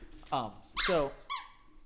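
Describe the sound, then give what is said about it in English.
A squeaky toy squeaks three times up close to the microphone, each squeak a loud, shrill, gliding tone, the middle one longest and brightest, with short pauses between. “And you put the squeaker up to the mic and go, squeak, squeak.”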